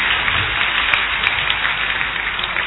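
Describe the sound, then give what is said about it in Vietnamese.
An audience claps in a dense, steady burst of applause called for by a bishop during a talk about Jesus, many hands patting at once with no break for a few seconds, with no voices over it. “Giỏi lắm, cảm cha thầy cho con một tràng pháo tay.”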